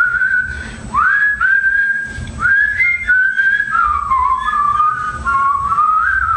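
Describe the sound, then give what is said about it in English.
Someone whistles a wandering melody for several seconds, the tone sliding between notes with short breaths in between, fairly loud with no talking. “Let me see if I can whistle it.”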